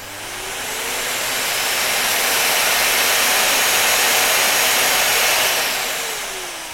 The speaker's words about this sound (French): Le Dyson Cyclone V10. Moteur hyperdimium, 60 minutes d'autonomie. Système de filtration par géothermie. Le top du top des aspirateurs. Pas à chier, c'est une belle bête.